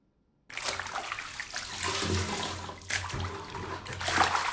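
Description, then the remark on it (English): Used bathwater is poured and sloshed steadily from a bucket, being transferred from a bathtub to a toilet, with a couple of stronger gushing surges near the middle and end. A low hum runs underneath, and no one speaks. “uses a bucket to transfer water she used to bathe from her tub to her toilet.”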